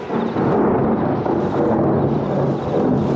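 A loud thunderstorm over a jungle area: a continuous heavy rumble of thunder mixed with a dense wash of rain, holding steady for the whole stretch with no voices.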